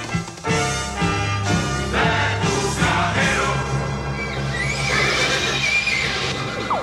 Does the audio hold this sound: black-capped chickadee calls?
no